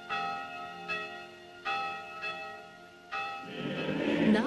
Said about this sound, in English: Outside, Mr. Jones and the scruffy young miners ring the school bell.